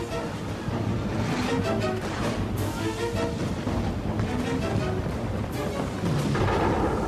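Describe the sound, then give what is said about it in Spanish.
Heavy cannon fire booms over a dense, continuous roar of battle noise. It is the last cannon shot fired from the sinking Chilean warship Esmeralda in battle with the Peruvian monitor Huáscar. The sound is loud, with deep rumbling blasts blending into a chaotic wash of sound throughout. “El guardia marina Ernesto Riquelme dispara el último cañonazo.”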